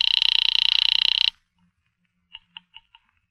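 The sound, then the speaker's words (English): A telephone rings Miss Blake's apartment line, called from a pay phone booth: one loud, rapidly trilling bell burst lasting over a second, then silence and a few faint short clicks on the line. “I'm ringing Miss Blake's apartment.”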